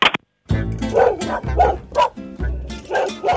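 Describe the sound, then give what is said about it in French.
A dog barks repeatedly, a quick series of loud, throaty woofs with short gaps between them and no other sounds competing. “Mais c'est marrant, là, parce qu'on voit, en fait tout ce que les gens font, hop, ils se promènent avec son chien.”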